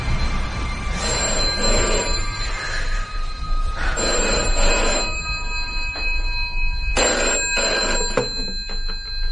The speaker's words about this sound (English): Phone went at about 11:30, just as I was drifting off to sleep.